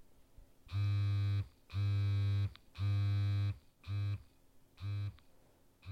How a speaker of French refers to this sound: Alors, c'était hyper long et je suis pas encore bilingue en morse. C'était point, point, point. Long, long, long. Point, point, point. Je crois que ça veut dire SOS.